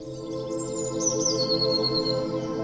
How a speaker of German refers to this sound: Fast zeitgleich kommt eine alte Bekannte angeflogen. Die Blaumeise. Sie flattert vor dir in der Luft und fängt an, ihr magisches Zwitschern in deine Richtung auszusenden.